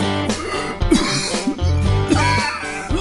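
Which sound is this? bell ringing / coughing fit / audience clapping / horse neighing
coughing fit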